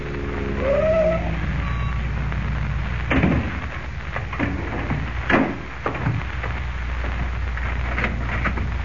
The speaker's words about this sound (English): The following morning, before Lois and Jimmy awaken, Kent, in a car borrowed from Graham, pulls up before the real estate office of Ed Jenks.